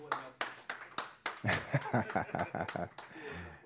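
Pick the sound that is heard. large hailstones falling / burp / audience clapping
audience clapping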